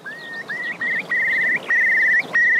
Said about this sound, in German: Und das ist auch ganz besonders an den Elternvögeln, die warnen ihre Küken dann und sagen denen, Achtung, es droht Gefahr. Und das, wie machen die das? Die stoßen so einen ganz besonderen Laut aus.